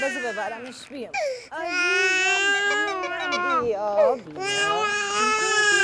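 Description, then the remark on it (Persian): A young child cries loudly and continuously, with high, strained wails that rise and break, pausing briefly for breath before resuming. “گریه نکن دیگه باریکالله.”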